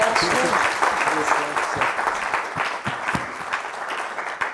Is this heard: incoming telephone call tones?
no